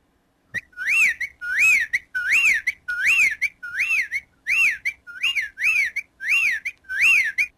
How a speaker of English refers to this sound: That is the sound of a whippoorwill, and that's another bird that apparently is disappearing as well.